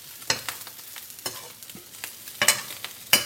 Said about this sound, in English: Sorry, because we were still frying the sausages and wrapping these hoes soon enough. Put butter in the other pan because our sausages are almost done.